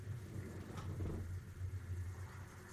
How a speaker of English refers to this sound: Ooh, it's thundering bad out there.